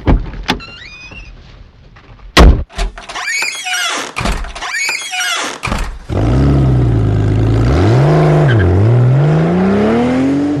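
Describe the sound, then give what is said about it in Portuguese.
A car trunk is opened with a few sharp thunks and latch clicks, then a whirring mechanism, followed by a loud, steady motorized drone that wavers up and down in pitch. “Dá uma mãozinha aqui pro vô. Abre o porta-malas.”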